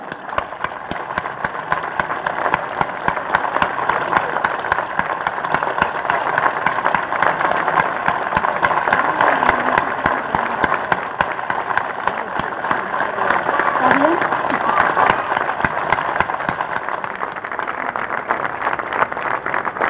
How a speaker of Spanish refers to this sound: Y como todos los años, vamos a cerrar la actividad con un minuto de aplauso por los 30.000 que están presentes y que seguimos reclamando juicio y castigo como el primer día.